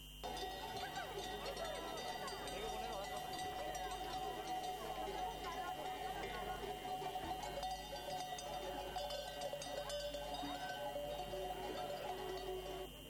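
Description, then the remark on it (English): A flock of sheep and goats, accompanied by shepherds, moves steadily through a street in the center of Madrid, Spain, along an ancient migration route, with a constant jangle of many bells, scattered bleats and trampling hooves, and a crowd murmuring in the background throughout. “Flocks of sheep are on the streets of Madrid.”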